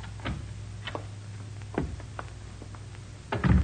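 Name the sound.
door opening and closing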